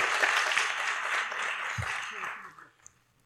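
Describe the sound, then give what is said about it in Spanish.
An audience applauds the director of YAG Guadalajara, who came from Guadalajara for the event, with dense, steady clapping for about two and a half seconds, then the applause fades quickly to near silence with a last stray clap. “Un aplauso, le podemos aplaudir.”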